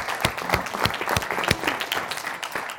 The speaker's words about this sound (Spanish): Muchas gracias. Un aplauso para ella.